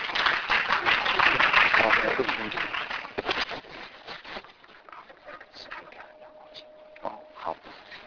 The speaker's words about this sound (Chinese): 我们请大家一起掌声欢迎他。